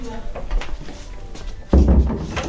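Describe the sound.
A door shuts with a single solid, low thud partway through, close by and fairly loud, with faint room noise and murmuring voices before it.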